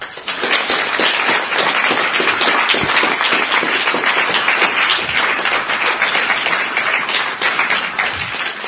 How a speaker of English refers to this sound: And we shall all give a loud round of applause to both these listeners.